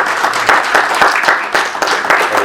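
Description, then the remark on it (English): A crowd claps hands in praise of the Lord one morning, applauding steadily with many hands together in a dense, sustained burst with a faint rhythmic pulse, loud, with no talking over it. “Come on, let's give the Lord a hand clap of praise on this morning.”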